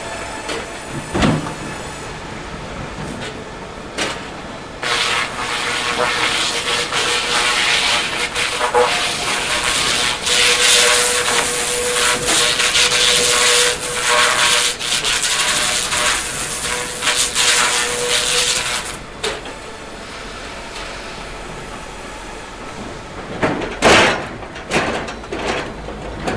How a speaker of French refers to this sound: Puis on rallume tout, on prépare, et petit à petit. Alors on allume l'air, l'aspiration, le groupe pour l'air, voilà. Puis ça commence à faire du bruit.